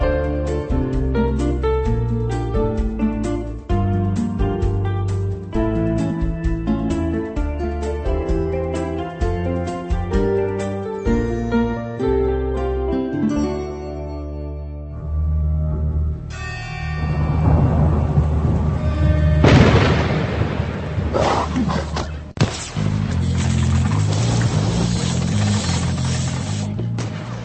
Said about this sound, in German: Schon der Trailer zum Film Alois Nebel kündigt ein geheimnisvolles und gefährliches Abenteuer an. Es donnert, ein Hund fletscht seine Zähne und es wird geschossen.